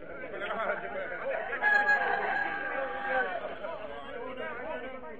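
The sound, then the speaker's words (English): A rooster crows at a cockfight over the steady murmur of a noisy crowd, the crow rising loudest midway through while many voices chatter and shout throughout. “Would you care to sell your black champion rooster?”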